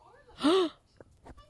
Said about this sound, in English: Why are you gasping? Because I just came up with the cosplay for SuperCon Saturday.